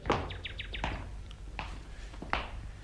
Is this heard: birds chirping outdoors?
yes